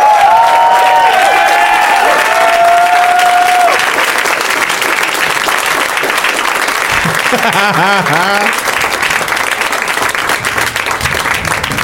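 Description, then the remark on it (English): Loud, sustained audience applause for guests arriving on stage at the start of round two of the Tournament of Championships fills the whole stretch, a dense wash of clapping with cheers and whoops rising over it, plus scattered voices shouting through the crowd noise. “I was telling them backstage that the applause, like for listeners, goes on for a really long time because the guests, they're backstage kind of enjoying each other.”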